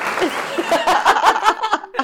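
A short applause sound effect, with irregular crisp claps over a steady bright wash and some faint laughter or chatter mixed in, fading out at the end.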